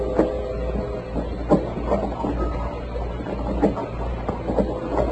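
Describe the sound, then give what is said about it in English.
A rowboat pulling out from shore over water, with irregular wooden knocks and splashy thuds from the oars above a steady low rumble, with no voices. “Somebody was pulling out from shore in a rowboat.”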